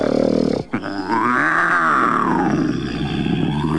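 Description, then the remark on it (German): A wolf lying in bed snoring loudly, loud enough to be heard into the forest, with a rasping, growly rumble: a short snort, a brief break, then one long drawn-out snore whose pitch swells upward and sinks back down. “Dann legte er sich wieder hin und fing an zu schnarchen, dass man es bis in den Wald hinein hörte.”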